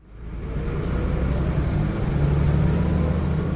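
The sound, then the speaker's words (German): A steady, low engine rumble and road drone inside moving city bus line 48 in Amsterdam, which serves the eastern harbour area, fading in quickly and holding constant throughout, with no voices. “Die Wut ist groß unter den Passagieren im Bus 48.”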